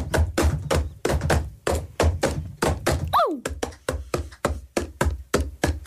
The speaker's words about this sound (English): Okay. It's all right. We've heard enough of banging on pots.